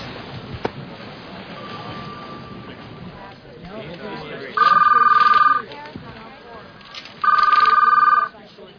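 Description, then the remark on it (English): A telephone rings twice, loud, each electronic trill lasting about a second with a short pause between, over a busy background of low rumble and indistinct voices. “Yes, that's your phone.”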